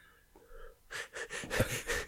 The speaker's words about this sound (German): Hör auf, so komisch zu atmen.